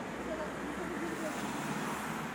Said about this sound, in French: Et il y a les bruits des autres voitures à côté aussi.